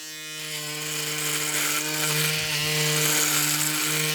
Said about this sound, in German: Ja, nimm dir den Rasierer und dann legst du bitte los.